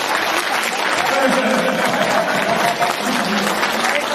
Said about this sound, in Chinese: 好，大家鼓掌是吧？